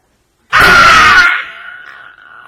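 A sudden, loud, agonized scream bursts out after a brief silence, harsh and strained for under a second, then trails off into a long, quieter pained groan, from someone being tortured by having a stretched rubber band snapped against their bare skin.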